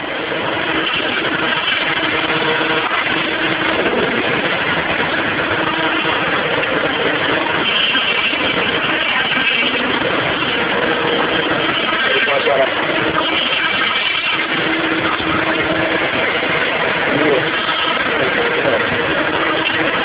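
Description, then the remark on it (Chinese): Gas vents from the exhaust valve of a fuel meter in a loud, steady rushing hiss, releasing a large amount of gas and white smoke while the meter stops, as a truckload of fuel is received. It holds unbroken for the whole stretch, with a man's voice talking over it at times. “这个时候可以从这个排气阀里面排出大量的气体，而这个时候油表是停止的，啊，大家可以注意看一看这个效果。”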